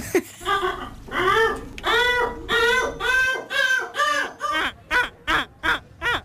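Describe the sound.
A man from Portugal, winner of the European seagull-imitation championship, imitates a seagull, letting out a loud series of about a dozen harsh, wailing calls that grow shorter and quicker toward the end, with no other talking.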